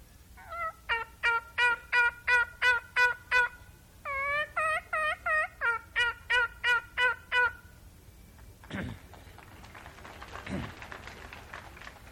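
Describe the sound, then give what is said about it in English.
A turkey call, used when hunting to call up turkeys, imitates gobbling in loud bursts of rapid, rattling notes for several seconds, pausing briefly midway, then gives way to softer rustling and faint voices. “And I use this every year, and I know a lot of you might not like the horrible thing of saying hunting, you know, but anyway, I call up my turkeys when I'm out hunting.”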